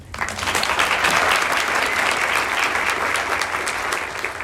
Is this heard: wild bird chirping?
no